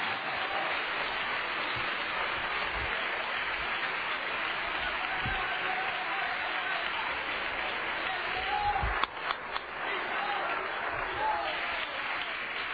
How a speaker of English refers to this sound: Clap your hands to the Lord and let Him know we're going to worship Him in the Word tonight.